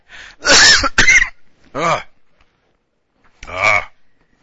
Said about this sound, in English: Every now and then I get one of those heart coughs things.